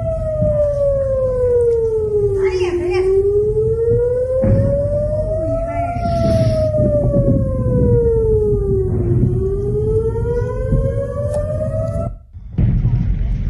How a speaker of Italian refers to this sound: Questi sono i suoni delle sirene d'allarme di questo pomeriggio.